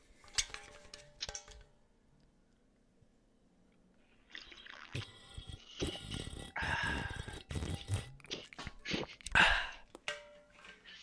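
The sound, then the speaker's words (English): Someone swigs a drink from a Yeti cooler: a couple of sharp plastic clicks, a short quiet pause, then several seconds of wet, sloshing gulps and slurps, fairly loud, with no talking. “It's really like, quick, I'm listening to you, then I'm also going to ASMR swig my Yeti cooler.”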